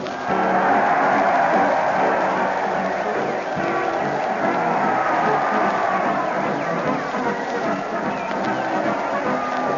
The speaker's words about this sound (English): Listen to that crowd. They're cheering madly as they march along with Fred Allen and his parade to the old Town Hall.